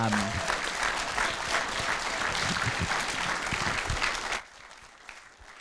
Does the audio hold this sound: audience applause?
yes